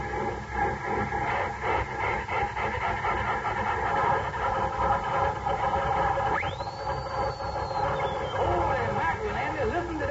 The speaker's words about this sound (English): Bearcat motor. Yeah, it sounds like the bear is chasing that cat all around.